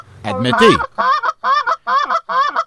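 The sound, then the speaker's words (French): A person imitates a Canada goose call: a drawn-out, sliding opening cry followed by four short, nasal honks in an even, steady rhythm. “Alors, on a d'abord entendu loutarde. Je pense que vous m'avez déjà entendu la caler loutarde, hein?”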